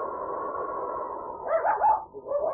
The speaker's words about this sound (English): a small white dog whined and whimpered at the door of Riggs' living quarters